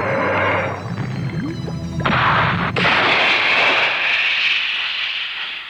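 A sharp mechanical clank gives way to a loud, sustained rushing roar, like a missile launching and streaking off, with a deep rumble beneath that slowly fades. No one speaks.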